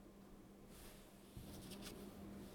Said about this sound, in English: All right, so I'm going to discard my cards, and now I get to draw two since it's the end of my turn.